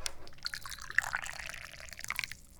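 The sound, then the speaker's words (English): Tea pouring steadily into a cup, a continuous splashy trickle with bright liquid spatters, fairly quiet with no talking over it. “I'm the chairman of the Dubious Goals Committee, and I'm so thirsty I need to pour some tea.”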